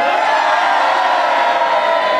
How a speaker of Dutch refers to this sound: Nou, zegt ze, als jij nou even vraagt of iedereen een beetje hard wil roepen, dan kan ik kijken hoe het is. Dus roep eens even hard, jongens.